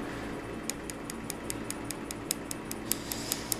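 Rapid, evenly spaced sharp clicks of tattoo removal laser pulses as hot as 800 degrees, fired by a doctor with a laser pencil at facial tattoos across the forehead, snapping at a steady rhythm over a low background hum, moderately loud, with no one speaking.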